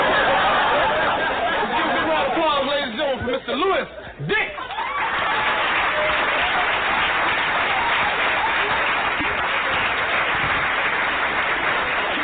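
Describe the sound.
A large crowd claps loudly and steadily throughout, with whoops, laughter and voices mixed in. The clapping dips briefly early on, then carries on at full strength.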